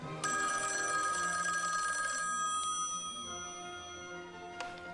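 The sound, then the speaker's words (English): A telephone bell rings with a bright metallic trill that starts abruptly, sustains for about two seconds, then decays, followed by a second short ring burst near the end. No one speaks. “Oh, my phone's ringing.”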